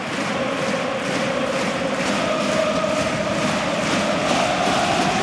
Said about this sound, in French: Je me demandais si là il y aurait une vraie ovation pour lui. Bon, j'ai l'impression que tout le parc est debout.